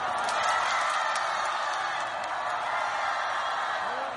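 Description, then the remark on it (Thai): A large crowd of North Korean cheerleaders and South Korean fans roars and cheers steadily for the joint Korean women's ice hockey team at the Winter Olympics, a dense wash of voices with occasional whoops and sharp claps poking through, loud and unbroken for the whole stretch. “ในวันพุธคณะเชียร์ลีดเดอร์เกาหลีเหนือและกองเชียร์ชาวเกาหลีใต้ได้ร่วมกันส่งเสียงเชียร์ทีมฮอกกี้หญิงของสองประเทศที่ลงแข่งขันภายใต้ธงชาติเดียวกันคือธงรวมประเทศ”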